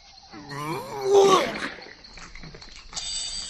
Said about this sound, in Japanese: ライオン